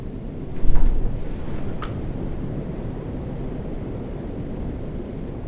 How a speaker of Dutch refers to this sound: De wind. Wat voor reactie komt er? Oeh, wel harde wind.